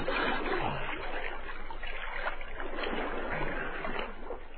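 Continuous sloshing and splashing of water as a person swims through it, a steady churning with soft bubbling strokes, no voices.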